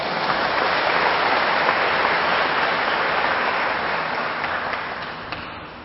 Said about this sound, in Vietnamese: tối thiểu 20 phút đọc các quyển sách học làm người, sách minh triết Phật giáo để mở trí tuệ, hiểu về kỹ năng sống, giá trị sống, góp phần làm cho cuộc sống của mình trở nên hạnh phúc hơn, thì các bạn hãy cho một tràng vỗ tay thật là lớn để cam kết.